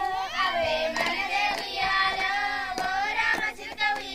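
After dark in the village of Kutur, more than 100 miles north of Hyderabad, India, a group of young girls dance around a colourful flower pattern on the ground. Their sharp hand claps land every half second or so beneath their bright, wavering group singing, crisp against the sustained voices.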